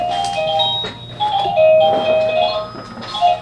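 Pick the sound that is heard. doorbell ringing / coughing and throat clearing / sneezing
doorbell ringing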